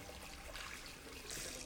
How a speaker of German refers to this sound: Lass das Wasser nicht laufen, ja?